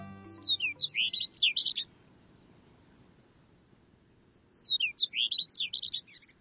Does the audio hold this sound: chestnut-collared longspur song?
yes